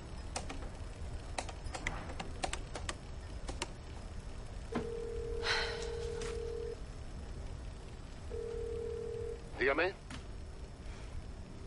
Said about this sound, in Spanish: Coge un teléfono y marca.